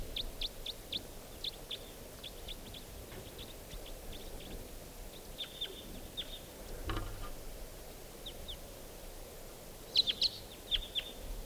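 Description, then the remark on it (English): A lone wild bird calls in short, high-pitched chirps, repeated in irregular bursts and fairly faint over a steady background hiss, with a slightly louder cluster of notes near the end. “And so there's a lone type 2 bird. This is it. Wild bird.”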